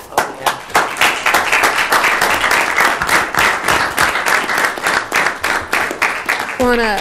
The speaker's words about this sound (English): We can't thank you enough for everything that you've done over the years, and anytime we can applaud you, that's what we will do.